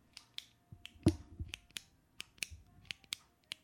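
A pen clicking or tapping: about a dozen sharp, dry clicks in an uneven rhythm, one noticeably louder than the rest, with no voices.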